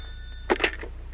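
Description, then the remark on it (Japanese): A brief, bright telephone ring bursts out once, lasting only a fraction of a second over a faint steady hum, with no one speaking. “あ、また電話だ。”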